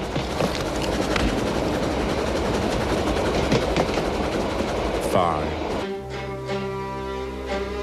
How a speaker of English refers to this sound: You are in a train in Germany.